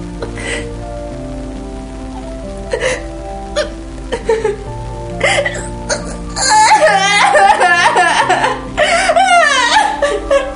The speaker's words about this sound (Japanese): 子供が声を殺して泣くもんじゃない。大声で泣いてくれないと大人はバカだから気づけないよ。